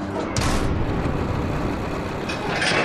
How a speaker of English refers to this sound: close the gazillion-pound door